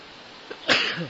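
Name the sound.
sneeze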